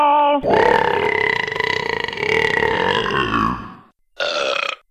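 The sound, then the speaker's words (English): A long, loud, drawn-out burp from a caller rumbles for several seconds, followed by a brief pause and a second shorter belch, both sounding slightly compressed as over a phone line. “Not down with just someone with a burping.”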